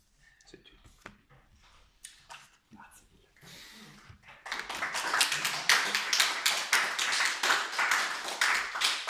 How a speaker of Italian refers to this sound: Con la poesia così viene facile l'applauso, solo per quello. C'è chi se lo deve sudare, mentre io me la gioco facile.